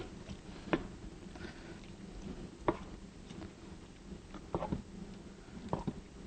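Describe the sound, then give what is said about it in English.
A spoon stirs thick chili in a pot, making soft wet squelches with a handful of sharper knocks against the side at irregular intervals, over a low steady hum. “And I'm just going to stir this around.”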